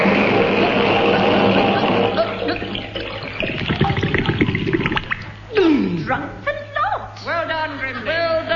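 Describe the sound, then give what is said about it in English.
Water sloshes and splashes steadily for several seconds, fairly loud, as it rises over a person's chin, followed by strained, gurgling vocal sounds of the person swallowing water over the churning water. “It's over my chin. I'm swallowing water.”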